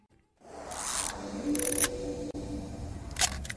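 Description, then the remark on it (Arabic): Three sharp camera shutter clicks, irregularly spaced, snap over a steady low background bed with no one speaking. “العكاسة هذه الفقرة القبل الأخيرة في حلقتنا لهذا اليوم والعكاسة بما معنى الكاميرا”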